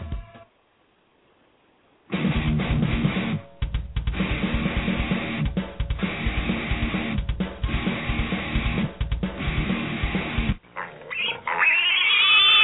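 A pig oinks and grunts loudly for several seconds, a rough, snorting run of repeated squeals and grunts with brief pauses, followed by a short burst of other noise.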